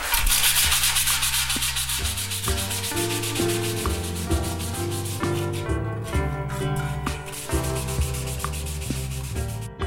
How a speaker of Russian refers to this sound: Сначала лист меди шкурится и очищается от окалины, затем сверлятся крепления будущей работы, после чего острые углы стачиваются во избежание порезов и травм.